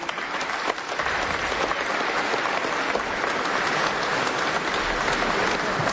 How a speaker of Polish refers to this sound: Tak, brawa jeszcze na koniec.